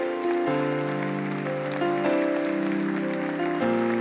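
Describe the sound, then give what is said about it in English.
A church audience applauds steadily to cheer and encourage people coming down to the altar, a dense wash of clapping that runs the whole time beneath loud, sustained organ chords shifting every second or two. “We just want to cheer them and encourage them.”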